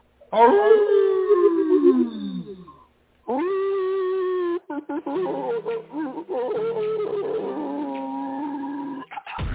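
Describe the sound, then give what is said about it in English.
A loud, wavering werewolf howl that slides downward in pitch, pauses, then returns as a steady held cry before breaking into choppy, sputtering bursts. “And you know what, that werewolf sound like he just choked first.”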